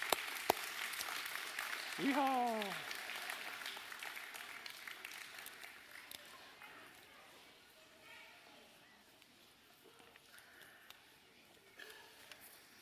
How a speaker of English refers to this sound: Kids dismissed, too. With a big round of applause, y'all clap for the kids.